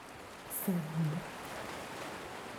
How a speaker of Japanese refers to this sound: でしょ。でもこの波の音を聞いていると、もうそんなのどうでもよくなってしまうね。えほら、波が押し寄せてくる。